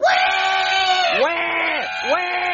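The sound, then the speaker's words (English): A baby on an airplane before takeoff wails loudly and without pause, its high, strained cry breaking into a few sharp dips and rising swoops as it gasps between bursts. “Hey, you think you could cry louder? I don't think my eardrums have ruptured yet.”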